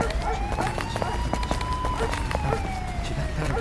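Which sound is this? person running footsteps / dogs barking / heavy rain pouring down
person running footsteps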